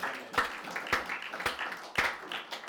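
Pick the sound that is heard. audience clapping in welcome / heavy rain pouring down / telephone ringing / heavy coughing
audience clapping in welcome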